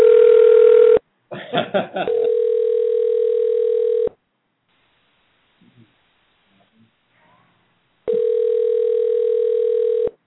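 A steady telephone tone cuts off, followed by a quick burst of dialing tones, then a long buzzing ring tone, several seconds of near silence, and the ring tone again.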